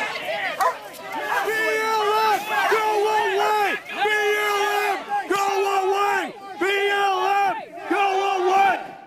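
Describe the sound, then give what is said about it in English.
A man yells loudly and angrily in a series of long, strained shouts, about five bursts with brief pauses between, after being tased by agents and ripping out the taser prongs, with a faint crowd murmur behind him. “He rips out the taser prongs and keeps yelling.”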